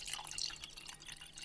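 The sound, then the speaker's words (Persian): Water trickles and splashes into a cup in a quick, steady pour, bright and bubbly with soft drips, as drinking water is served, heard alone without any talking. “بفرما، این هم آب.”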